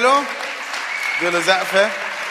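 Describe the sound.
Steady audience applause, a dense, even wash of clapping throughout, with a voice rising over it in the second half.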